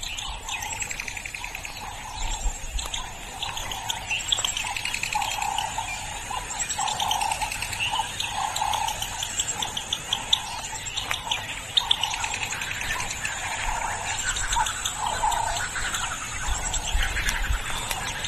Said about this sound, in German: Ja, dieses Vogelgezwitscher. Das war schön, immer damit irgendwie ein bisschen geweckt zu werden.